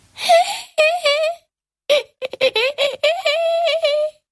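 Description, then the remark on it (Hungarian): A baby guinea pig's thin, mewling cry rises and falls in several wavering bursts, fairly loud, with a short pause before it starts up again more insistently. “Harsant fel újult erővel a vékony nyivákoló sírás.”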